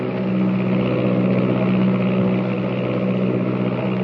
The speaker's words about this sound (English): The miles rush by like seconds. New Mexico, Texas, the Rio Grande, and the slim silver shadow of the plane threads its way southward through the night.